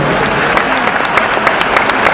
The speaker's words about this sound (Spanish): participación de los colegios, de la red escolar judía, de los movimientos juveniles, de las instituciones sociodeportivas y de los organismos centrales de nuestra comunidad que fueron parte de este desfile, y los despedimos con un fuerte aplauso.